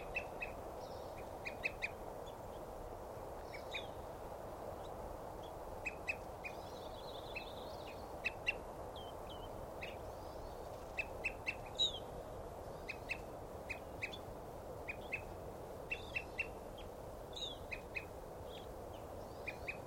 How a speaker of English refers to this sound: Start hearing now that bird's tooping.